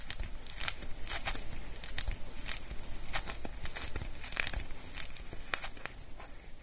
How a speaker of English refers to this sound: For instance, when is the last time you really appreciated the lovely sound that an orange makes when you peel it?